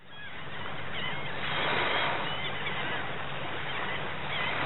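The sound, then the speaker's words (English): Shorebirds call in repeated, high, squeaky cries over a steady rushing wash of Chesapeake Bay waves that swells slightly midway; no one speaks. “Those sounds of shorebirds and Chesapeake Bay waves open an episode on the condition of that bay, which we last explored in an August 2020 episode.”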